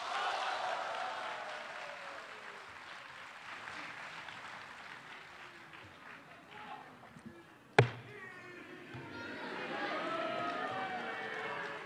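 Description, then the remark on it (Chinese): Steady audience applause for the xiangsheng crosstalk performance 'Huanghelou' with Guo Degang fills the whole stretch, a dense crackle of many hands clapping, with one sharp loud knock partway through and a brief lull before the clapping swells again. “哎， 这个掌声是给您的。”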